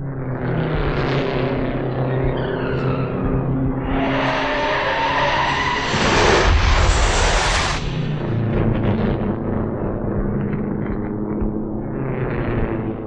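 A race car's tires squeal and skid for several seconds, loud, then a sudden harsh crash bursts out midway before the screeching and engine noise carry on; an accident involving car number 57, driven by Jimmy Daywall, in the northeast turn of a race track.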